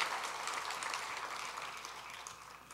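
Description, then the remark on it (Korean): Steady audience applause, a dense crackle of many hands clapping at an even level for a few seconds, with no voices over it. “박수 한번 다시 할 경우에 모시겠습니다.”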